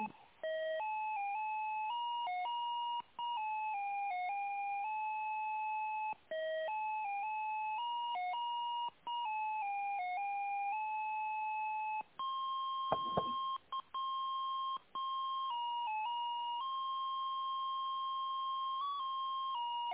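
A telephone ringing tone heard over the line during a call transfer, with nobody picking up: steady electronic beeping tones shifting in pitch, repeating in cycles of about three seconds, with no one talking.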